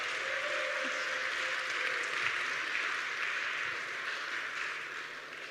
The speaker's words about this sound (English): that's why you cheer. Normally it's more dramatic.